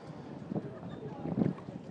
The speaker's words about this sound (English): I'm kneeling down by the water here, with Zoom in hand, holding it on the promenade just above where the water is sloshing on the slipway.